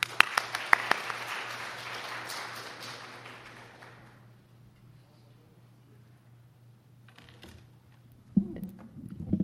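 An audience claps in a dense, crackling burst of warm applause welcoming a guest pastor, which gradually thins and fades over about four seconds, followed by quiet with a low steady hum, then a few sharp knocks and shuffling.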